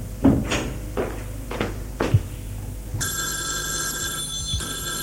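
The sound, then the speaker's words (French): A few hollow wooden knocks and clunks, then a telephone bell bursts into loud, continuous metallic ringing that fills the last two seconds, bright. “Réponds au téléphone. Ça me fait peur.”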